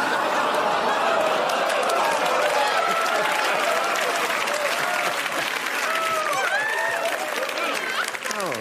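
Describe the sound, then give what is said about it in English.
A live audience reacts to a joke about Jeffrey Epstein with a drawn-out collective "ooh" that blends into steady, loud applause, with scattered chuckles and cheers throughout the dense crowd noise. “Ooing into applause.”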